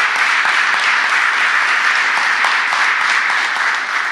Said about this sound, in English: And I want to start by acknowledging another person that we lost this year, Kevin Tuffy, who served as chief of the Albany Police Department from 1995 to 1999. Please join me in giving him a round of applause for the impact that he's had on the city.